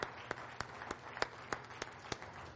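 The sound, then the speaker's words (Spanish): An audience applauds the Lord after a song, clapping together in a steady, even rhythm, about nine sharp claps over a soft background hum, fairly quiet overall with no talking. “Aleluya, hay que aplaudirle al Señor.”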